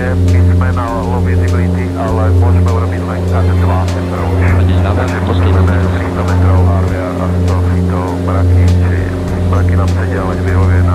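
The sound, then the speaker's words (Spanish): An airplane, flight SK737, approaching to land as the control tower clears it to land: a steady, loud droning engine hum with deep tonal layers and gently pulsing volume, with indistinct voices talking over it throughout. “SK737, puede aterrizar.”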